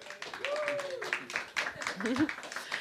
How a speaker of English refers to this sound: Give a big applause and welcome to